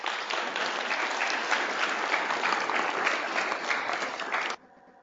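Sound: audience applauding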